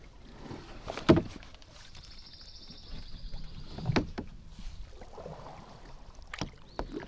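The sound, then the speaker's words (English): Paddles of a two-person kayak dip into calm, glass-like pond water at sunrise in a slow, uneven rhythm, each stroke a soft splash and gurgle, with a faint steady hiss of ambience and no talking. “Our kayak breaks the glass-like surface while the sound of our paddles disrupts nature's calm.”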